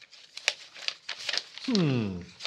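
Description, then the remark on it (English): Crisp rustling and crinkling of papers in a documents folder in quick, uneven bursts, followed by a short voiced exclamation as the shuffling tapers off. “Ah, there's the documents folder.”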